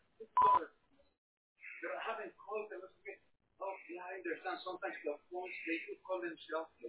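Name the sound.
telephone keypad dialing tones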